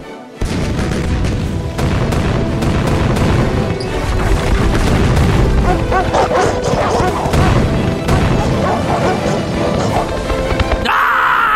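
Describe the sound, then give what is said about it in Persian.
Loud, repeated booming blasts like cannon fire crash over a dense, chaotic din, with dog-like barks and yips mixed in and a brief tonal whine at the very end. “توپا رو پار کنید. آتش.”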